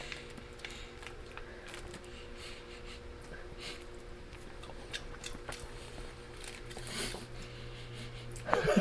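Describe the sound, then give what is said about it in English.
Intimate mouth noises, soft wet clicks and crunches of someone chewing food, recorded with binaural microphones worn in the ears, with breathing between bites over a steady low hum from a fridge. “I'm eating. And I have my binaural microphones, which goes into my ears, so which means you can hear me eating.”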